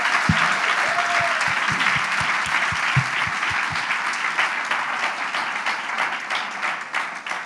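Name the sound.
audience applauding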